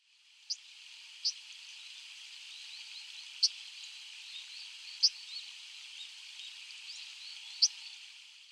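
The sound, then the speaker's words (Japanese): A brown dipper gives five sharp, high, buzzy calls at irregular intervals over the steady rushing hiss of a stream, with the calls standing out clearly above the water noise. “カワガラスです。”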